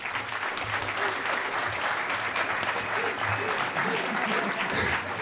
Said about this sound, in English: I'd like to give a round of applause for Mark